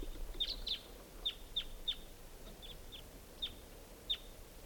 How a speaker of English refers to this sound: I hear pair birds. A lot of crossbills around here.